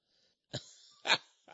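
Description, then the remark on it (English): A man clears his throat with two or three short, rough bursts in quick succession, fairly loud, with no talking. “And they accidentally, let me clear my throat, at Fox News TV, they left Paul's name off.”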